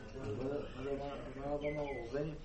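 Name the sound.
voice imitating dove cooing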